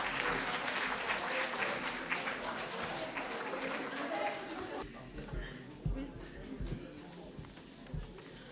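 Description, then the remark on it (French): Audience applause as young people go up to read their testimonies: a dense, steady wash of many hands clapping that fades after about five seconds, leaving a few scattered claps and low thumps as the noise dies down. “On les applaudit pendant qu'ils montent et on les applaudira après, bien sûr.”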